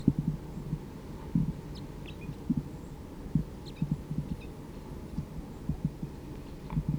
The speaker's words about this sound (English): And there is a vocalization of a wild bird from the trees here.